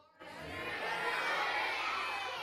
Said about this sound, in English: Okay, when you get to three, yell out the name of your favorite dinosaur. One, two, three.